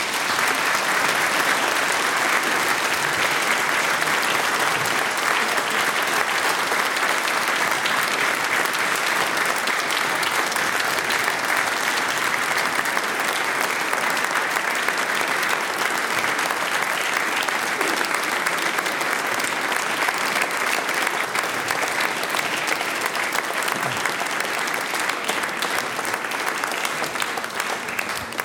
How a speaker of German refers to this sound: Wenn es Ihnen gefallen hat, dann war es jetzt an der Zeit, dass Sie Ihre Hände wieder rausnehmen aus die Sackeln. Und wir freuen uns auf einen wohltuenden Applaus. Vielen herzlichen Dank.